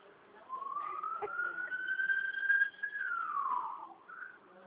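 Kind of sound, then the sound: vehicle, passing ambulance siren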